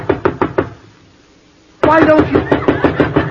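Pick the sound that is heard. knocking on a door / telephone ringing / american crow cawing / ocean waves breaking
knocking on a door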